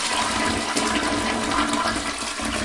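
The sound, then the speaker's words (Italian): A toilet flushes, a steady, loud rush of water filling the whole short stretch without pause. No voices are present. “sicuramente non col vostro lavandino, peggio ancora con lo scarico del water.”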